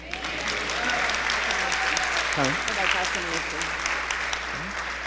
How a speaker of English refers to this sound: So if you would like to acknowledge that and have her come join our fellowship with just a loud amen and a lot of applause.